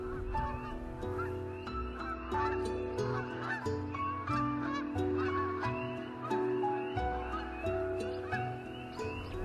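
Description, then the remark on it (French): A flock of migrating geese from Norway and Sweden honks continuously overhead, many overlapping calls forming a dense, steady chorus that stays fairly loud throughout, with no other sounds standing out. “Je suis certain que les hommes préhistoriques, quand ils passaient des oies comme ça, il levait aussi les yeux au ciel.”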